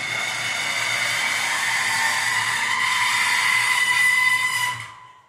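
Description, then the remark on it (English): A metal tension spring, dropped between two microphones, rings out with a steady, bright metallic shimmer and layered high overtones over a hiss. It holds at an even loudness for nearly five seconds, then cuts away quickly. “That was dropping said spring in between two microphones.”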